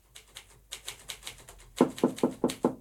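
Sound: knocking on a door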